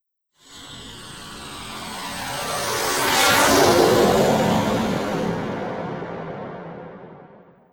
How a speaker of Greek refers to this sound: Αεροπλάνο.